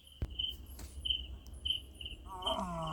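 A far-off big cat, having moved further away to the west, roars once near the end, a full-lung, low, drawn-out rumble rising over a steady chorus of crickets trilling through the night air.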